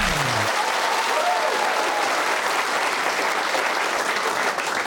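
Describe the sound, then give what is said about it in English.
Steady, loud applause from an audience at Paul Sinha's Perfect Pub Quiz, a Radio 4 comedy show, a dense wash of many hands clapping that holds at the same level for the whole stretch, with no voices standing out. “Good evening, ladies and gentlemen, and once more, thanks for that warm applause.”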